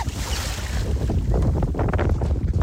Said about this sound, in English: I mean, I do not have paddles, so lucky there's an offshore breeze.